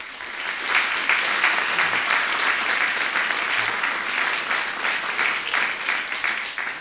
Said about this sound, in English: And we clap.